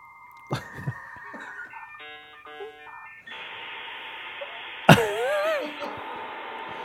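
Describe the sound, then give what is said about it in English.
A dial-up modem connects to the internet over a phone line: a steady dial tone, a quick run of dialing beeps, then harsh hissing static and warbling, screeching handshake tones that grow loud and chaotic toward the end. “Like, why'd you answer the phone? I was trying to connect to the internet.”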